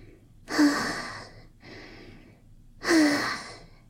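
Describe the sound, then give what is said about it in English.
Two people pant heavily after sex: three long airy exhales in a slow, uneven rhythm, the first and last louder with a faint voiced catch at the start, the middle one softer. No talking. “We're both panting, sweaty and blissed out.”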